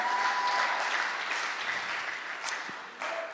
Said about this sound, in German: Gebt nochmal einen richtig fetten Applaus an Dominik von letzter Woche